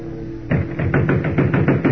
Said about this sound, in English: Gosh, Mr. Kent, we've been pounding that door for 5 minutes and no one answers.